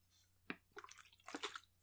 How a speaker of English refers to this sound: It's me taking a drink of water.